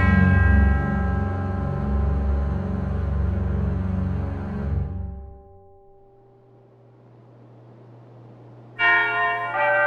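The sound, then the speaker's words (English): A pull bell at a house's front door clangs loudly late at night with a deep, reverberant tone that rings on for several seconds and fades, then sounds once more near the end. No one speaks. “When Tolliver heard the pull bell ring late at night, he got out of bed, put on his house coat, lit a candle, and then walked through the house to the front door.”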